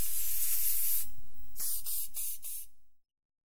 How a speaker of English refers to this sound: She cried, picking up a hosepipe and spraying water all over him.